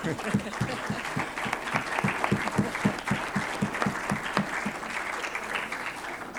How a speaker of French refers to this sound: Est-ce qu'il y a quelqu'un qui refuse ce texte? Donc je pense qu'il y a tout le monde qui est d'accord avec ce texte. Par acclamation.